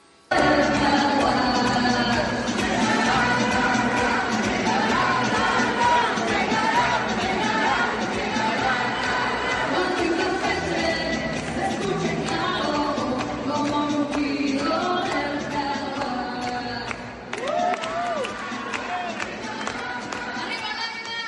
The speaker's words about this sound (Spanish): unieron todos a esta celebración en el Centro de Convenciones de Campeche. Ahí fue donde presentó su primer informe de gobierno Laida. Vamos a escuchar un poco de cómo bailaban, chiflaban, gritaban, hacían coreografías, aplaudían. Escucha, por favor.